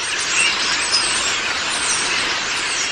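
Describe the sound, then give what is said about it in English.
A dense, continuous wash of chattering and squeaky calls from a large flock of starlings, steady and fairly loud throughout, with a few thin whistles poking out of the din. “Do you think all this noise should be called a murmuration of starlings?”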